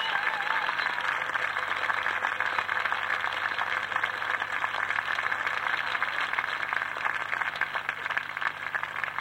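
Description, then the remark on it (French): A crowd applauds Madame Dreyfus with steady, dense clapping that holds at an even level for about nine seconds, with no one speaking over it. “Madame Dreyfus, également très applaudie.”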